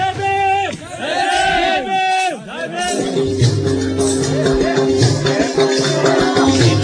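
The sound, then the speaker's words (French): An evening festival crowd in a Dalit village square fills the air with cheering and loud, sustained voices, then rhythmic music with steady drumming and tonal melody plays continuously over the crowd noise as villagers put on a small concert and party. “Alors c'est la place du village. Tout ça c'est pour nous. Toute cette musique c'est pour nous.”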